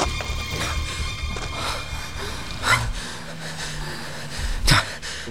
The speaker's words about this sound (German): Erst als sie der National Recreation Area entkommen waren, blieben sie keuchend und erschöpft am Rand der Straße stehen.